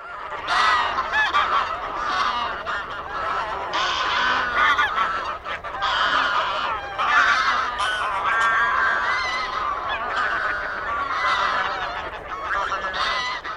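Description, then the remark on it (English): Greylag geese (Anser anser) honk loudly and continuously, many harsh, nasal calls overlapping in a busy, dense flock chorus throughout, with no other sounds or voices. “It's the gray-lag goose, Anser anser.”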